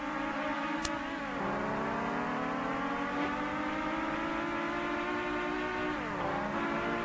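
A car engine in the Amiga racing video game Nigel Mansell's World Championship by Gremlin drones loudly and continuously, its buzzy tone climbing steadily in pitch, with two brief dips where it shifts gear, heard alone without any talking.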